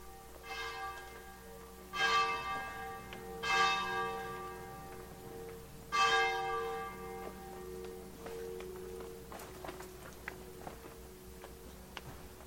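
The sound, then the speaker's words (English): Church bells in Frascati, Italy ring out in a few loud, resonant strikes spaced a second or two apart, each humming away slowly, then the pealing fades and light scattered clicks and taps remain in the background. “Church Bells of Frascati.”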